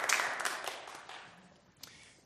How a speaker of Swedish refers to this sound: Och jag antar att det applåderas åt alla som ser på detta.